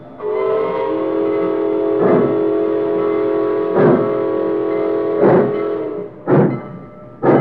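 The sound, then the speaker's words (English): A freight train starts again and pulls out after its crew has inspected the track beyond the cut and signaled: a long, steady horn blast holds for several seconds while heavy rhythmic chugs or clanks come roughly every second and a half, speeding up toward the end. “By the time the cartons are moved off the freight cars, the train crew has inspected the track beyond the cut, found nothing wrong, and signaled for the train to start again.”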